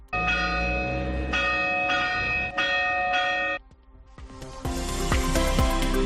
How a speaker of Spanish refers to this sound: Y hoy era un día para escuchar las campanas que suenan por la llamada España vaciada.